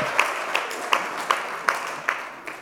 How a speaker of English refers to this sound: Thank you. Awesome job, guys. Let's give them all another big round of applause. Good job.